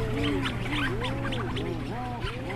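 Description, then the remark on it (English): A dense chorus of rhinoceros auklets, out of their burrows and socializing, gives low, mooing, groaning calls that rise and fall in overlapping arcs, with higher chattering, purring storm petrel calls mixed in over a steady low rumble. “rhinos start coming out of their burrows and socializing, and that's when they really start mooing.”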